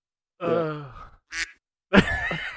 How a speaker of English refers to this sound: That's like the best one. You just use that for quack, that duck. That's definitely my favorite. Yeah, you just get it, man, and you can like pound it, like quack, quack, quack.